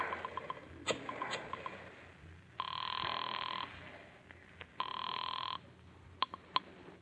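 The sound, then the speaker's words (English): A telephone bell rings twice in long, buzzing bursts separated by a short pause, after a number is dialed, preceded by a few faint clicks, with no voices present. “Pick up the phone, dial a number.”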